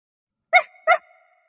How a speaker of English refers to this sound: Pup barks in the dark night.